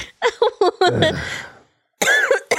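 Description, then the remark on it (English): A fit of several quick, sharp coughs from a person who choked on their own saliva, ending in a longer raspy, strained breath, then a short pause before a brief voiced sound. “I choked on my spit.”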